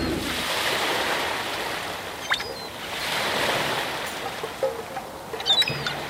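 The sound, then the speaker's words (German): Ocean surf rolls in and washes out in two broad swells, a steady hiss of breaking waves at moderate volume, with a few faint creaks and chirps scattered on top. “Ein wenig Brandung bitte.”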